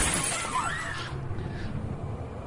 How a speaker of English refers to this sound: Okay, glass breaking.